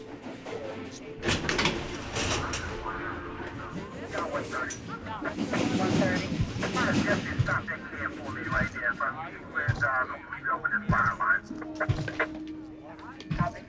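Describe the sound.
Steady rumble of a subway train in motion, with metallic clanks, rattles and brief squeals over a low drone, while indistinct voices murmur in the car throughout.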